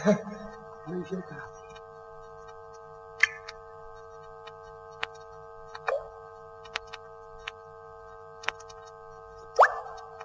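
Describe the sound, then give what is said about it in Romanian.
Water drips from a leaking ceiling in slow, irregular single plops a second or more apart, clear over a steady low droning hum. “Încă uite, a început să picure din tavan. O infiltrație!”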